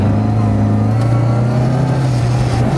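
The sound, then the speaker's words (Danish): The engine of a 1968 Mini, driven by 78-year-old Rauno Altonen, drones loudly, its low hum rising gradually in pitch as it revs while driving steadily over a surface that keeps changing between gravel, asphalt and dirt, with no voices over it. “Manden, han er 78 år, og bilen, den er fra 1968.”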